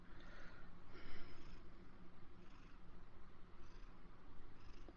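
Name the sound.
cat purring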